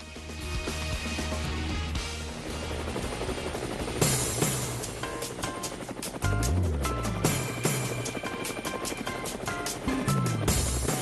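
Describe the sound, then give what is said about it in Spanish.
A loud helicopter rotor chops steadily throughout, its rapid rhythmic thumping layered over a dense engine roar, with no one speaking. “en el helicóptero a ver hacia dónde nos llevan el día de hoy.”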